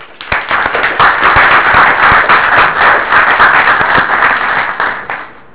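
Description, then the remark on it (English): A crowd applauds steadily for several seconds, an audience welcoming a speaker to a talk in Bristol: dense overlapping claps with a few sharper individual hand slaps standing out, swelling quickly at the start and tapering off at the end. “so please join me in welcoming Oksana to Bristol”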